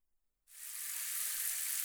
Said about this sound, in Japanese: ではシャワーで流していきますね。